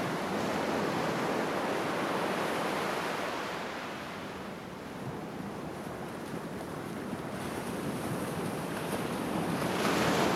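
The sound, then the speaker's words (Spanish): Steady roar of icy, dark ocean surf with gusting wind, a broad continuous wash that dips slightly in the middle and swells again toward the end. No voices. “Mares helados, oscuros como rocas, viento, ballenas, aves marinas, bosques cerrados y algas.”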